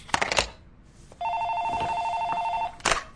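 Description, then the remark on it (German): A telephone rings once in a coach's office in an administrative wing in Bavaria, with a steady, bright electronic tone lasting about a second and a half, clear, framed by short bursts of clattering noise before and after. “sitzt bereits seit dem frühen Morgen in seinem Büro im Verwaltungstrakt und führt ein Telefonat nach dem anderen.”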